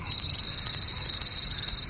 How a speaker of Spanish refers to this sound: ¿No hay grillos? Mira, grillos están ahí.